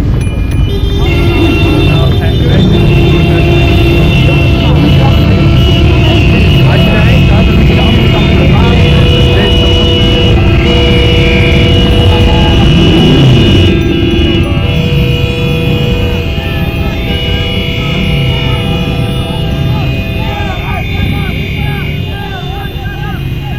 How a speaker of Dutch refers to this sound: Nou, even kijken, 1, 2, 3, 4, een stuk of 15 motoren die met ronkende motoren staan.